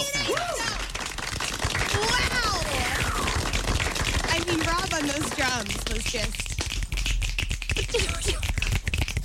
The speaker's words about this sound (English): That's how they clap.